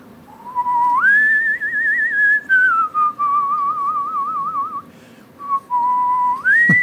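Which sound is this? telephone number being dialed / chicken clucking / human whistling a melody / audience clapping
human whistling a melody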